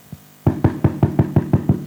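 A quick series of about seven firm, evenly spaced knocks on the door of a home, preceded by one faint tap, with no voices, as a pastor arrives and knocks.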